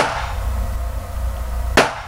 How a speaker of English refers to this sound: For our purposes, we'll just focus on the .45 caliber handgun, like the one used in the Virginia Beach shooting. First, the gun without the suppressor.